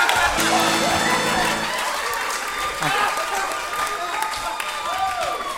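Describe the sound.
Steady audience applause fills the whole stretch, a dense wash of many hands clapping at an even, loud level, with scattered voices and cheers mixed into it.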